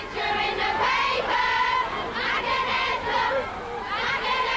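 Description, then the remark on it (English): A large crowd of fans outside the Radio 1 studios in central London screams continuously at high pitch, many voices overlapping in loud, excited waves that swell and dip without pause across the whole stretch. “Tonight, really, outside Radio 1, screams, smiles and swoons outside the Radio 1 studios.”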